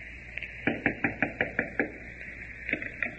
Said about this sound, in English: Wait and see. Knock on this door. Well, he's probably out. Wait.